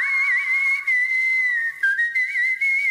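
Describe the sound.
A woman whistles a clear, sustained melody with gently wavering pitch, held notes gliding into one another at a steady loud level, no voices present.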